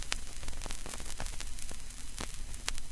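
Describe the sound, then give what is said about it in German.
Steady hiss of vinyl record surface noise from a record player's needle running along the record, with scattered sharp crackles and pops at irregular intervals, over a faint low hum, fairly quiet, with no voices or music. “Und allein wegen diesem leichten Rauschen und Kratzen liebt Charlize die Musik von der Schallplatte.”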